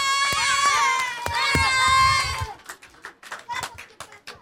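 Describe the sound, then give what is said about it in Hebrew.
At a live-broadcast event with dancing, high, excited children's voices shout and cheer together for a couple of seconds, then give way to scattered, uneven clapping from the audience that fades in bursts. “איזה ריקודים היו כאן? מחיאות כפיים.”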